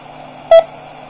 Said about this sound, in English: That was a repeater I just keyed up. I hit the talk button. That beep was the courtesy beep of the repeater calling back.